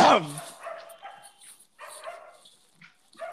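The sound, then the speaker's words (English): A dog lets out one loud bark, followed by several quieter yips and whines scattered across the next few seconds, with faint background noise. “I think there was a dog barking.”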